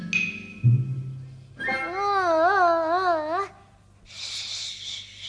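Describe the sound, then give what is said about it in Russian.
A talking baby doll, set off by pressing a button on its belly, cries with a warbling, wavering electronic wail lasting about two seconds, fairly loud, preceded by a soft thump and followed by a burst of hiss. “Не плачь, не плачь, маленькая.”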